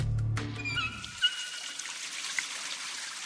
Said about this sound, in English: In the time you've been listening to this radio commercial, 6 gallons of water have been wasted. The same amount you could save just by turning off the faucet while brushing your teeth.